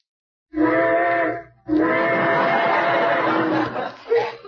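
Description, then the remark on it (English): A steam train whistle sounds two loud, sustained chord-like blasts, a shorter one followed by a longer wail, then a brief faint toot at the end. “Trains, how I love them.”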